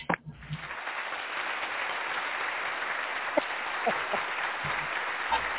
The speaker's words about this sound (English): I don't know why I'm still clapping, though.